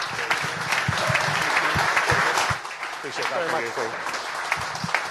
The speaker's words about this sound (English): Ladies and gentlemen, please put your hands together